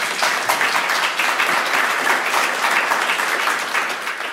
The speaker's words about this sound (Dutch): En dat is Guillaume Bijl. Uw applaus alsjeblieft.